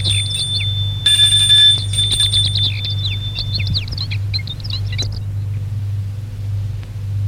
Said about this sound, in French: Monte au perron et sonne à la porte.